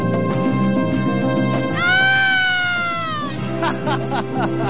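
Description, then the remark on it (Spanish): A person imitates a turkey gobbling with one drawn-out, wavering vocal call lasting about a second and a half, heard over a busy background of other voices and noise. “Voy a hacer el pavo en vez del gato.”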